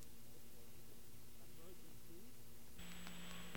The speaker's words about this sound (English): We're going to get another one of these friendly dial tones and call up a number, special hotline number for emergencies.